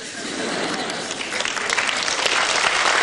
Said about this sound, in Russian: Вот я так люблю иногда, порой, когда люди просто аплодируют, не смеясь. Это значит, они согласны.